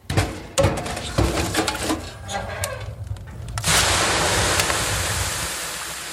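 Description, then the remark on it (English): A few hollow wooden knocks and clatters, then water is ladled onto hot rocks in a Finnish sauna, setting off a loud, sustained steam hiss that slowly tapers off. No one speaks. “The little shacks where Finns ladled water on hot rocks and sweated on wood benches.”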